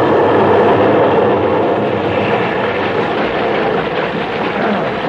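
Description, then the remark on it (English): A large ocean wave strikes a small boat, a loud, steady rushing roar of churning water that fills the whole stretch without a break, with no voices. “Watch this next wave, Jack. Hold on.”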